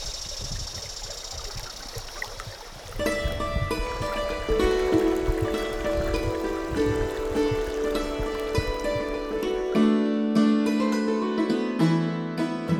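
The Clinch River in Virginia flows with a steady rushing babble, alone for a few seconds before bright instrumental music starts over it; the water fades out near the end, leaving only the music.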